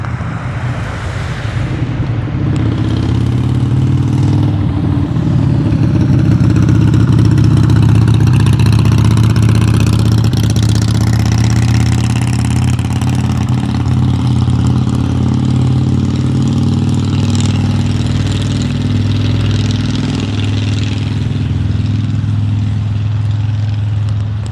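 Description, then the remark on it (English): A loud, rumbling motorcycle engine drones steadily for about twenty seconds, swelling slightly as it comes up from behind by a park, with gusty wind noise over the microphone and no talking. “Nosy motorcycle.”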